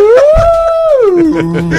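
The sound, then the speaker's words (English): A person voices a long, mournful whale-like call: a loud, sustained tone that swells upward, holds, then slides down into a lower hum, all within about two seconds. “I can't do a whale noise. That's your whale?”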